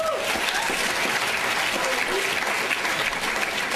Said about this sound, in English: So let's actually, if we could, because he's still standing awkwardly, give Luke a round of applause.